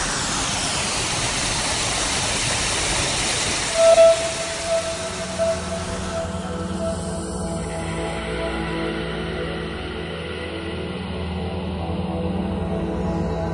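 A steady, full roar of rushing water from Silver Fallet, a waterfall in a Swedish forest, continuous and fairly loud throughout, with a faint thin whistle briefly rising above it early on.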